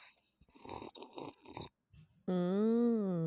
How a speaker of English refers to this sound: Do you guys want to hear me take a big sip of my wine? Ready? Yep.